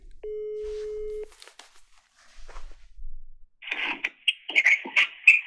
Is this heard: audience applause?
no